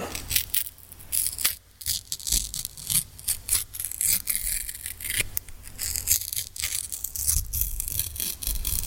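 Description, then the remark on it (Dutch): Continuous crinkling of a paper cupcake liner, a busy crackly rustle with frequent sharp snaps and small crunches, fairly loud and steady throughout with no voices. “Het cupcake papiertje anders eens proberen?”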